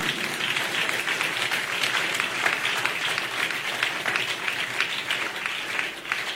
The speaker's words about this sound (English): Clap for the Holy Spirit.